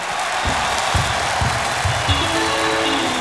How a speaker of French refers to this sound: Si on est content, j'aurais aimé que vous applaudissiez chaudement, tapons-moi avec les mains en l'air, s'il vous plaît.